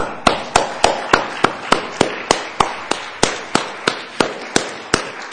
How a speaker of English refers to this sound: I see some grandfathers applauding. Their fathers, too.